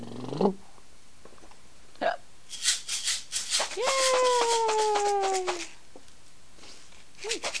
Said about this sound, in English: You had the hiccups.